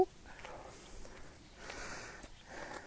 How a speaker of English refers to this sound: Come on. Come on. Stop sniffing the plant.